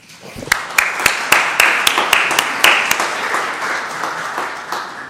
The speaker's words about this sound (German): Vielleicht können wir denen mal einen kleinen Applaus schenken.